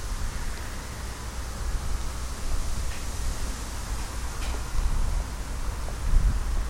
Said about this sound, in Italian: Se c'è tutto sto vento è buono, buono. E adesso ce n'è proprio tanto, vento laterale arriva sulle orecchie, le devo aprire.